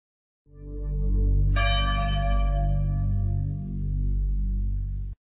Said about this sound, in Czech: A taj lelek i zvonjenje tužnih zvona prenećemo duh kroz srca miliona.